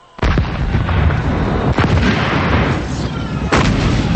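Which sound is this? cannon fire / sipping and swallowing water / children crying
cannon fire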